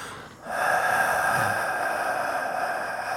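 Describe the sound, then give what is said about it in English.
A voice imitates a prank caller's heavy, raspy breathing into a phone: one long, loud, breathy inhale-exhale rush held to the mic after a brief quiet start, with no words spoken. “And she hears some more breathing.”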